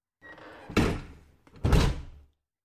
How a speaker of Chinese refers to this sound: 啊，你问我为什么把门锁上了？进门之后关门，这不是很正常的事吗？